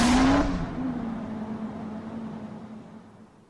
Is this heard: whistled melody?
no